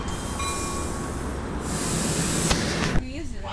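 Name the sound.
train passing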